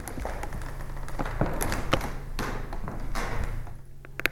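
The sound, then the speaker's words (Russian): A wooden floor in the museum at Abramtsevo creaks and knocks underfoot, with irregular thuds and taps of slow steps over a low hum, without any talking. “Скрип пола в музее Абрамцева.”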